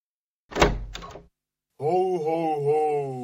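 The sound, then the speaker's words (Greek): A front door is opened for an arriving guest on New Year's Day, with two quick wooden knocks and a rattle of the latch. After a short pause, a person starts speaking. “Πιένε να ανοίξεις να δούμε ποιος κατέφτασε πρώτος που το σώει.”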